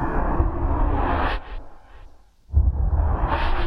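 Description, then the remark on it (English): A dense, airy transition whoosh, used to get in and out of other sounds, rushes in loud, thins out and nearly drops away for a second, then surges back with a heavy low-end thump and sustained roar. “Now, these are I called opium whooshes, which are just used for transitions to get in and out of other sounds.”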